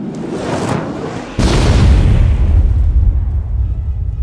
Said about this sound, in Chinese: 剧烈的爆炸声呢就充斥整个房间，但是那个巨手呢因为完全趴了下来，所以爆炸的火焰没有燎到他